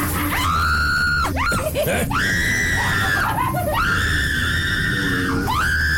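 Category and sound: human body sound, person screaming in fright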